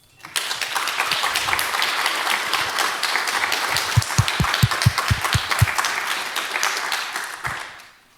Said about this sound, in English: I would like to thank the organization team. So again, a big applause to them.